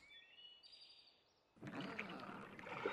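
Faint birdsong chirps at first, then oars start dipping and splashing through water, a steady sloshing of a small boat being rowed across a lake toward an island while birds continue softly in the background.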